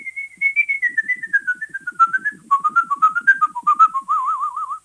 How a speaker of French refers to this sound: quand le sifflet s'énerve un petit peu, mon personnage interprète quelques notes de la marche turque de Mozart